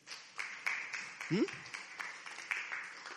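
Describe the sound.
A church audience claps for themselves in a steady, dense patter of applause for a few seconds, with a brief voice whooping or calling out partway through.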